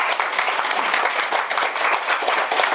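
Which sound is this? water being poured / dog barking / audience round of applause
audience round of applause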